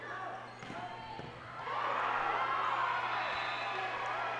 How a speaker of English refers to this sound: The crowd's getting pumped, trying to pump up the Penguins.